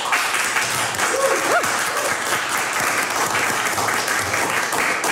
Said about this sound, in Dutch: En dit applaus nemen we op en dat gaan we ook hergebruiken, dus dan is dat ook een beetje circulair.